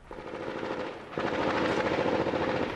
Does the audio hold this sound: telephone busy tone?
no